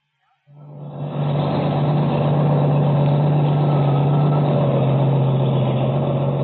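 A heavy truck engine rises in after a brief silence, then settles into a loud, steady, droning rumble as it drives along a highway, the only vehicle on it for miles, with no voices.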